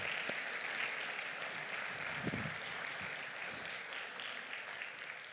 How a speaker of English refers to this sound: Guys, let's give Jesse a round of applause.